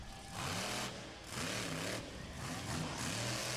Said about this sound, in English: Yeah, I saw this monster truck. He did a backflip too. How high in the air did he flip?